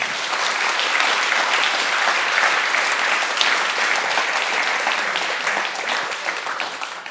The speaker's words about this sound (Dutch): En geef ze een applaus.